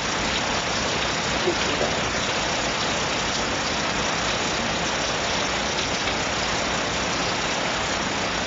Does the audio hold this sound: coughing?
no